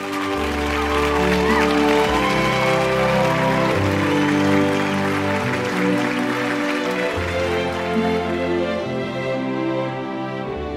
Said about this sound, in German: Dann Jubel. Der Kameramann bleibt vor Rachel Portman sitzen. Ihr Name ist vorgelesen worden.